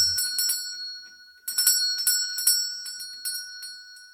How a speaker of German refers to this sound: Als sie ihr Werk vollbracht hatten, stellten sie den Alant auf die Wiese, direkt vor der Haustür der alten Frau, und die Elfen zogen gemeinsam an der Türglocke.